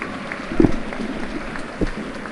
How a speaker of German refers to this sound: Aber Jan Mauersberger steht jetzt auch wieder, muss natürlich jetzt erstmal runter vom Platz, bekommt ja auch seinen verdienten Applaus.